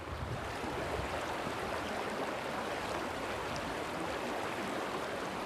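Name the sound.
flowing creek water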